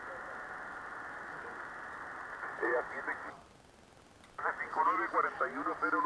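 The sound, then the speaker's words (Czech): Narrow-band radio receiver audio: a steady hiss of static with a garbled voice that drops briefly to near silence, then returns as a clearer, filtered voice transmission with the noise reduced. “Teď dávám 3 kilo a teď je 2,2, jak se můžete všimnout, tak to zmizlo to rušení.”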